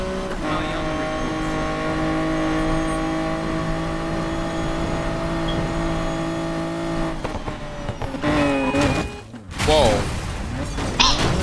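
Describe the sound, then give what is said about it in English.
A video game car, driven on the wrong side of the road, has an engine that drones at a steady pitch for several seconds, then revs up and down in quick, rising and falling bursts with a gritty, buzzing tone. “Wait, why am I driving? I'm driving the wrong side of the road.”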